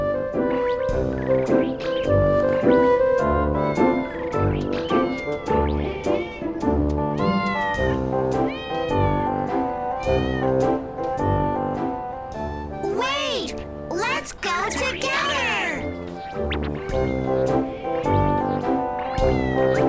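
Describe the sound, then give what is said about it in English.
Several cats meow back and forth in repeated, drawn-out calls over a steady tonal backdrop, with a cluster of higher, more insistent meows rising near the end. “The cats are on the roof.”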